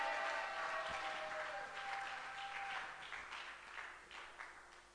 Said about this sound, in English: If that is also becoming your desire, can you clap your hands and shout amen to God's glory?